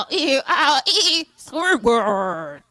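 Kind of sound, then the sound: animal, goat bleating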